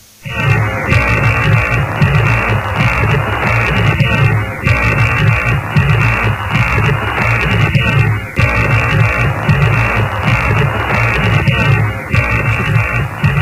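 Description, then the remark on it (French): Marconi's historic first radio transmission of the Morse letter S, three dots, heard as a steady wash of loud, muffled crackling static with faint pulsing beneath it and brief dips. No one speaks. “Et tout de suite, on écoute le son de cette transmission.”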